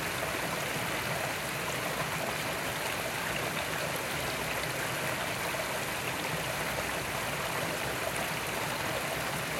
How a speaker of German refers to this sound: Bemerke, was in dir auftaucht, wenn du das Plätschern hörst.